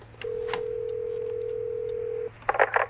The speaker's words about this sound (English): Hand me the phone. Sure. What are you doing? I'm calling the number. But it's a fax machine,